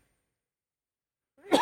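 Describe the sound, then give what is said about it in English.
A single sneeze bursts out abruptly after a stretch of silence, a quick rising intake followed by a loud, breathy, noisy blast that is cut off at the end. “Bless you.”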